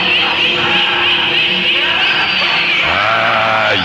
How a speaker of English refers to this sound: The shrieks, the laughter. Worse lies beyond the gates, far worse.